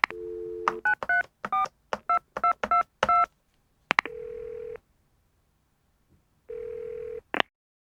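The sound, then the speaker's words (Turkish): A steady dial tone gives way to a quick run of about eight touch-tone beeps, then two long, even ringback tones separated by a pause, with clicks at the start and end; an office worker phoning colleagues about a 3 o'clock meeting. “Arkadaşları hemen arıyorum.”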